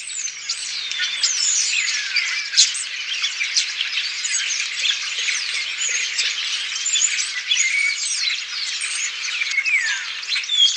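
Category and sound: bird, starling calls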